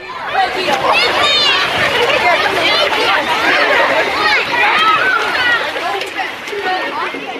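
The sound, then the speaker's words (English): Busy local public swimming pool in summer: a loud, unbroken din of many overlapping voices, with children's high-pitched shouts and squeals rising above the general chatter throughout. “For those who can't get to the beach in summer, there's always the local pool, which might not be so relaxing if it sounds like this.”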